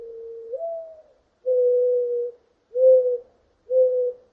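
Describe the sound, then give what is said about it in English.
A mourning dove coos alone: a hollow opening note that slides upward, followed by three steady, low, mellow coos separated by brief pauses. “I chose one of my favorite birds, the mourning dove, whose melodic triplet is the soundtrack of my childhood.”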